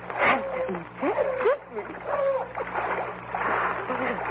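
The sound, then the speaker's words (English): Footsteps of a man fleeing tracking dogs slosh and splash through shallow water and mud in an uneven, hurried rhythm, with breathless vocal sounds mixed in over a low steady hum. “Walk in the water. The dogs won't find me then.”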